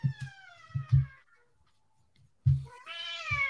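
A very big female cat meows loudly, a drawn-out cry, then a short pause before a second, rising meow. Nobody talks over it.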